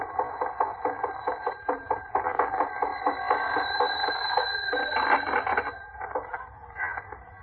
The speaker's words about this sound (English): Jack, that's your phone ringing. Oh, my goodness, and Rochester isn't home. Excuse me, John, I better run in the house and answer it.